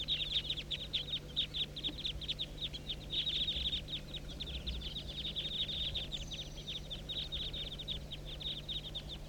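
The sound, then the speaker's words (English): A large flock of about 30 birds circling about 200 feet up above a hollow, their rapid, overlapping high-pitched chirps running unbroken and fairly loud throughout, over a steady low hum and no voices. “Now they're about 200 feet, still circling above the hollow.”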